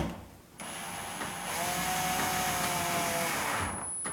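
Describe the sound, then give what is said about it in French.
A power screwdriver fitted with a flat screwdriver bit drives a screw into a door, which is held in place with a foot behind it. The steady, high-pitched motor whir starts abruptly, grows louder partway through, runs about three seconds without any talk, then stops. “Et je prends ma visseuse avec mon tournevis, ma mèche tournevis, mon embout tournevis plat.”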